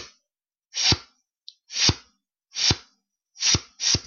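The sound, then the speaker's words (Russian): A beatboxer's inward snare, made by saying "syp" on an inhale with a long S so the relaxed lips snap shut on the P, repeated five times at an uneven pace, each a hissy inhaled rush ending in a sharp lip pop, with a tiny click between the first two; no talking. “И когда воздух проходит через буквы «П», воздух заставляет губы быстрее сомкнуться, и получается характерный хлопок.”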